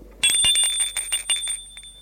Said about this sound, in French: L'on sonne à la porte d'entrée.